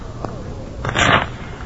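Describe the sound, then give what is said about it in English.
A quick riffle shuffle of a deck of playing cards, one brisk papery burst lasting under half a second, fairly loud over a quiet hum. “Shuffle them, would you please”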